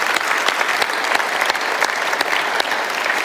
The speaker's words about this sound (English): Can we, across all the campuses, celebrate what God has done this past Easter? Let's go ahead and give the Lord another round of applause.